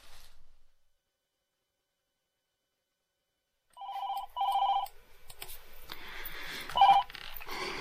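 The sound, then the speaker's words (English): A few electronic telephone keypad tones are pressed, two short clusters of beeps, followed by a ringing line and a burst of another tone, fairly clear with no talking. “Got a lot of phone calls to make.”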